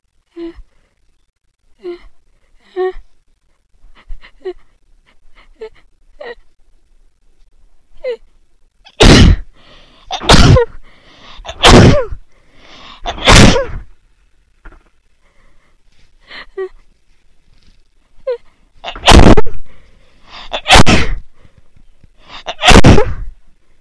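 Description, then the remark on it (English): A person whose nose is itching and running from dust kicked up by vacuuming breathes in sharply several times, then sneezes hard four times in quick succession. After a pause of shaky inhales come three more loud sneezes. “I feel like I'm gonna sneeze real soon.”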